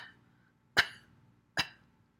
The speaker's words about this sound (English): Keep breathing out. Bend over, cough a little bit.